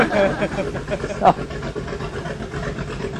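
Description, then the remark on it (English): A recreational motorboat engine on a lake drones steadily off to one side, a continuous mid-level rumble with no breaks, while faint, indistinct voices murmur underneath. “So, bear with the boat noise off to the side, but one of our recreational uses on the lake.”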